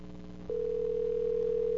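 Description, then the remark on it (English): After a brief quiet moment, a steady electronic ringback tone from a phone line starts and holds unbroken to the end, on an outgoing call to Chico's Games and Wigs, with no one speaking. “It's ringing.”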